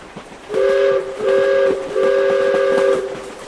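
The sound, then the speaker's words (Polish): An express train sounds its horn in three long, loud blasts, each a steady chord-like tone, with a low rolling rumble of the train underneath and no voices. “Pośpieszny pociąg?”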